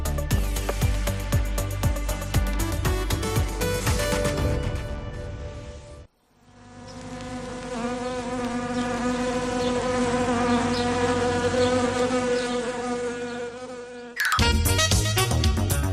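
A loud, steady buzzing of wasps drones on for several seconds, continuous, framed by short bursts of upbeat music before and after; a sound effect introducing the radio segment El Avispero on COPE Cantabria.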